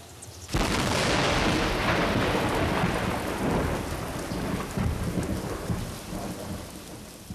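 A loud crack of thunder bursts in suddenly and rolls on, with steady heavy rain hissing throughout and a low rumble fading slowly over several seconds.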